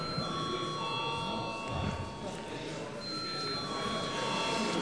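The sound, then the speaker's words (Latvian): A parliamentary voting bell rings continuously for about five seconds, a steady, even electric tone with a faint murmur of voices underneath, called for before a vote on a bill amending the law on administrative territories and populated areas. “Nav piebilstams, lūdzu zvanu.”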